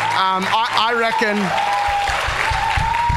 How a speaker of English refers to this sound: But I could, yeah, you can clap him.